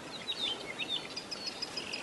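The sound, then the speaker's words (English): Birds chirp outdoors in rough country on a skid road during a hunt, in quick, high twittering bursts that repeat throughout, faint over a steady background hiss, with no one speaking. “Hear the birds?”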